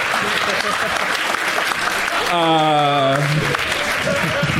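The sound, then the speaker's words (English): Dense, loud audience applause for a joke fills the whole stretch without letting up, and a single voice lets out a long held cheer partway through before the clapping carries on. “Fuck all of you for applauding that joke.”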